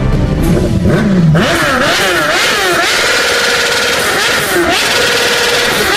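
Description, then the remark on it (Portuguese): A motorcycle with a loud, aggressive modified exhaust revs hard, its engine pitch rising and falling in repeated throttle blips, continuous throughout. “Deixa eu ouvir aqui a zoada daquela descarga do Satanás.”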